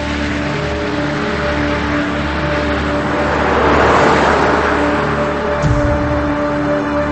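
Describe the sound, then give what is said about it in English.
An SUV drives along steadily while following another car, its engine hum and road noise filling the scene, swelling briefly midway before a soft thump near the end; no one speaks. “She quickly walks toward the SUV and gets in.”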